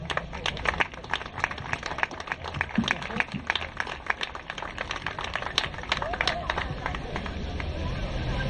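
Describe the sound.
A crowd claps steadily for several seconds, dense irregular hand claps forming a continuous patter with a murmur of voices mixed in, staying fairly even in loudness throughout.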